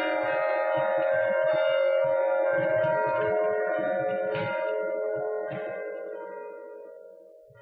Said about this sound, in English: You're listening to his recording of the bells at Christ Church in Philadelphia. The bells date back to the 1700s.